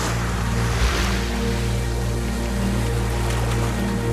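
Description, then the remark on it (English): Steady rush of sea waves and churning water, with a low rumbling hum underneath and a brief splashy swell near the start as a huge sea monster, like a whale with many fins, breaks the water's surface in the distance; no one speaks. “In the distance, a huge sea monster, like a whale with many fins, breaks the water's surface.”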